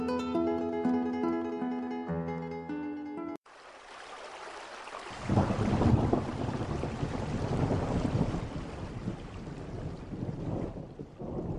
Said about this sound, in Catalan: Vicent, ¿estás escuchando la tronada?